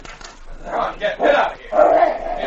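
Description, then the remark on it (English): A dog at a door, trying to get in, whines and yelps in several rising bursts, its high, strained cries growing longer and more insistent toward the end. “Well, it's a dog trying to get in.”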